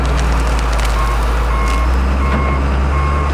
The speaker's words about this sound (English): But right now, a tractor is pulling the tart cherry trees from his orchard.